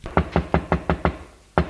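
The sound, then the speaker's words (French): A steady series of six solid knocks on a door, evenly spaced, followed by a brief pause and one more knock. Someone is knocking on a door at the radio station so that it will be opened. Each knock is sharp and fairly loud, with no voices present. “Arrivé à la radio qui se trouve dans un pan de porte, il frappe à la porte pour qu'on vienne l'ouvrir.”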